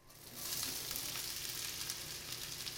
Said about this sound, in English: Paul Vugtveen, a chef in Michigan, is standing over a sizzling frying pan.